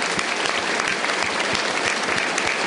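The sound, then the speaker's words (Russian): Children playing a rain game clap densely and continuously, mixed with low thumping foot stomps, together building a loud, steady roar that mimics a heavy downpour of rain. “Ногами топаем тоже.”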